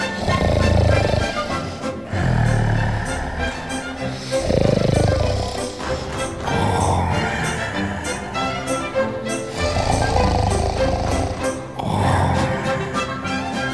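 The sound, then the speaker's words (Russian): Loud, rough snoring with a growly, animal-like rasp from a wolf asleep on the ground in the sun with a swollen belly, repeating in slow rhythmic breaths about every two seconds, sustained, with a soft musical bed underneath. “Упал он на землю и заснул крепко. Греет на солнышке разбухший живот и храпит.”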